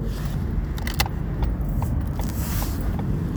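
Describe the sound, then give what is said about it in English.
Steady low road rumble from inside a moving car, a continuous droning hum with a few faint clicks and taps over it, no voices. “Just like I'm going down the road in this car has a course.”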